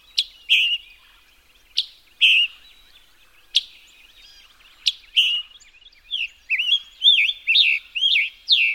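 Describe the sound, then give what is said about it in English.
A brightly colored songbird, a migrant from the tropics perched in the canopy, calls alone with sharp, high chirps spaced a second or so apart, then breaks into a quicker run of slurred, whistled phrases, clear against a quiet background. “So that gorgeous visitor from the tropics may well be hidden in plain sight.”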